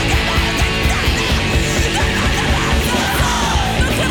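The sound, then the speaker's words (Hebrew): A female vocalist fiercely shouts 'She is brown, she is smart' over a loud, dense punk band, with pounding drums and distorted guitars driving at a steady fast pace throughout. “אחד משירי השנה של … בשנתה הראשונה. היא חומה, היא חכמה. כך צועקת הסולנית”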